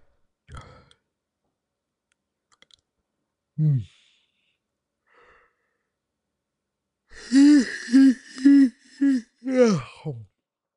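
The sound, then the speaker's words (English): A person deliberately forces a long, loud yawn, a wavering, groaning vocal stretch of about three seconds, preceded by a few quiet breaths and small mouth sounds. “Here, I'm going to make myself yawn again.”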